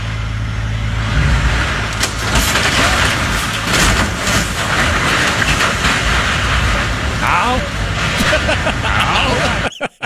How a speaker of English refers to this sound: Slides down the embankment, the oversized truck.